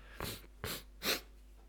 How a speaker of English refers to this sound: Sniffle, sniffle. Ah, okay. If you don't like sniffling, you should probably not listen to this episode, because I am sniffly.